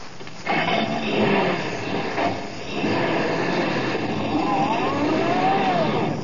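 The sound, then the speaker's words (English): A truck loaded with luggage roars to life and pulls away toward the railroad station, a loud, steady mechanical rumble with rising whines as it revs up and gathers speed. No one speaks. “Now, come on, drive us down to the railroad station and step on it.”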